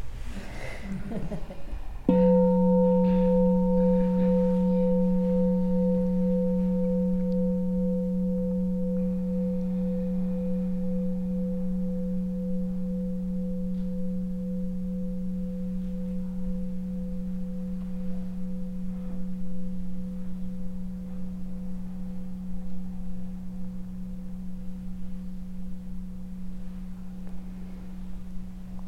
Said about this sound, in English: We have a bell.